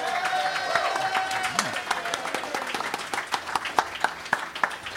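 A room full of people breaks into loud, sustained applause, dense overlapping claps filling the space with a few sharper individual claps standing out near the end.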